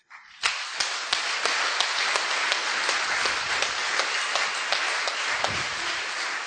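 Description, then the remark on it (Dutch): A church audience breaks into applause to thank God for a member's return after heart surgery, many hands clapping in a dense, steady patter with a few sharper individual claps standing out, sustained at an even, fairly loud level without any voices. “Dat doen we via een applaus, hè?”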